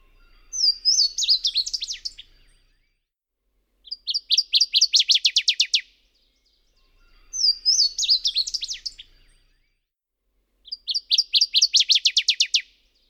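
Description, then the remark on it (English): Two different waterthrush songs, from Lang Elliott recordings in the Stokes Field Guide to Bird Songs, alternate twice: first a Louisiana waterthrush's slurred whistles trailing into a jumble, then a northern waterthrush's rapid, emphatic run of repeated chips. Clear, with silence between songs. “In each pairing, the Louisiana song comes first, followed by the northern song.”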